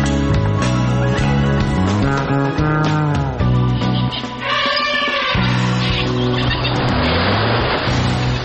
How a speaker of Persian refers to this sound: بر اساس این تحقیق، سر و صداها و آلودگی صوتی مرتبط با ترافیک و رفت آمد اتومبیل‌ها در افزایش فشار خون انسان‌ها نقش دارد.